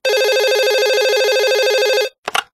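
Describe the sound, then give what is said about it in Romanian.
A woman's telephone rings loudly, one continuous warbling electronic trill lasting about two seconds, then cuts off. A short clattering knock follows right after. “Peste două săptămâni, țâr-țâr, telefonul Ralucăi.”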